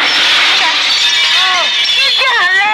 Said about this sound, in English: Okay, what should I smash? Smash the chair.